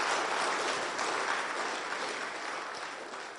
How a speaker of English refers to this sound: And so let's give them just a welcome, like an applause to the Lord, a welcome. We're glad you're here.